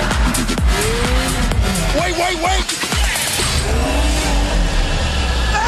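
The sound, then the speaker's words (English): A chaotic rush of several car engines revving and accelerating at once as cars pour out of a parking structure, with tires squealing in rising and falling whines, loud, while a voice briefly shouts over the din. “All the cars just pouring out of the parking structure.”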